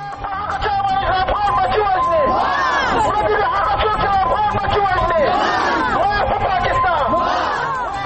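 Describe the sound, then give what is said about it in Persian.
Hundreds of protesters demonstrating in the centre of Kunar province, Afghanistan, shout and chant together, a loud, continuous mass of raised voices with rising, wavering cries throughout. “بیش از 20 راکت پاکستان امروز بر کنر اصابت کردند و صدها تن در مرکز این ولایت به مظاهره دست زدند.”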